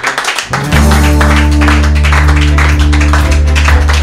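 Audience applause for a guest, a dense wash of many hands clapping throughout, joined after a moment by a steady, loud low musical tone underneath. No one speaks.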